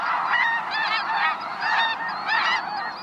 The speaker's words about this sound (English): When we watch birds, they're often in flight. Snow geese.